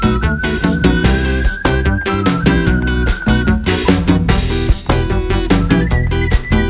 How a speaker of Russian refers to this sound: Свистишь тут, все равно не находит.